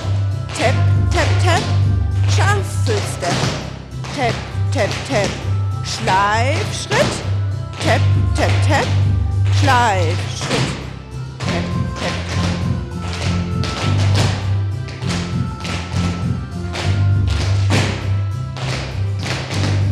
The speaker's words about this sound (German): Also jetzt wird hier sich eingetanzt. Man merkt, es ist ganz schön laut. Es klingt fast so, als würden hier lauter Nägel eingeschlagen werden.